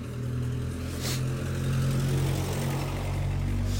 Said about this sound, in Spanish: Va a pasar un auto, obvio, no pasa nadie. Ahí va a pasar un auto, lo vamos a escuchar en vivo y en directo, adelante.